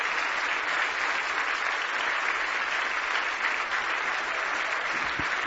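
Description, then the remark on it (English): An audience gives a hand clap of praise, applauding steadily for several seconds, a dense, even wash of many hands clapping at a constant moderate loudness with no voices standing out. “Give him a hand clap of praise in Jesus' name.”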